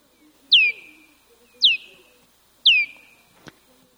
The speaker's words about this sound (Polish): Tutaj będziecie mieć borowca wielkiego.